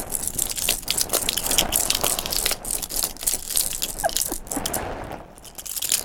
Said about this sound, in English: Okay, you shake the spoons, I'll shake the keys. Shake it!